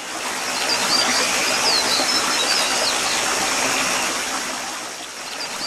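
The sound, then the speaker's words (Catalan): A mountain stream winds down over rocks by a village in the Vall Alta, a dense, continuous wash of water, with faint bird chirps high above the flow and no voices. “Serpentejant rierol avall, per les roques anava lliscant.”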